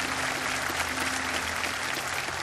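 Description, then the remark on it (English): A church audience claps steadily and continuously for those joining through the web and television, a dense, even wash of applause from many hands that holds at a constant level throughout. “Church, why don't we clap our hands for all those who have joined us through the web and through television.”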